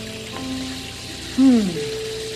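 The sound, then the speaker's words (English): Cool water runs on a hot day in a steady, even hiss the whole time, with faint humming tones beneath and a brief louder voiced sound that swoops down partway through. “Cool water on a hot day.”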